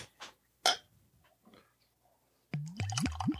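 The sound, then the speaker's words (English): Beer glugs out of a growler jug in three rhythmic, hollow gurgles that each rise in pitch, following a few faint clicks and taps. No one speaks. “Look at that growler jug pour. That's some glug glug effect right there.”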